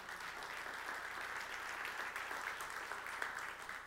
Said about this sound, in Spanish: Ahora bien, a veces aplaudimos por emoción, pero ese aplauso que acaban de dar nos pone una responsabilidad de decir, si yo conozco el plan y si yo pertenezco a Dios, yo tengo que abrir mis labios para que otra gente conozca acerca de este plan.